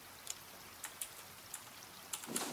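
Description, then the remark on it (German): Light rain falls quietly, with scattered drops tapping at an irregular pace over a soft, steady hiss. A slightly heavier patter swells near the end. No one speaks. “Ja, aber es regnet.”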